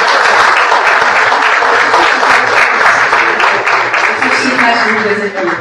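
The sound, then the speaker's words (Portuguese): Sustained applause from an audience, a dense wash of many hands clapping at steady loudness throughout, full, with no pause or fade. “Então, uma salva de palmas para ela.”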